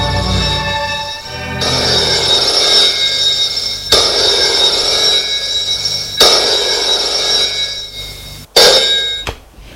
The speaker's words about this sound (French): Et une semaine plus tard, le téléphone sonne à son bureau.